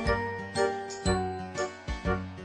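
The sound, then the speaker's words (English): The small tinkling bell of Noddy, the Toyland character, rings in a quick, repeated jingling pattern, with bright high chimes over a soft musical backing, clear with no talking. “Noddy, his tinkling bell means he's the happiest little fellow in all Toyland.”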